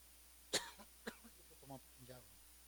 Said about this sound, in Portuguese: Eu tenho uma tosse que é tosse de velho. Os médicos não dão muito jeito disso aí, não.